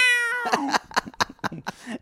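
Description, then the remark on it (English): A cat lets out a long, drawn-out meow, then a quick run of five or six short, clipped mews in a steady rhythm, loud with no talking. “You really should make a piano cat app that every time someone, it just goes.”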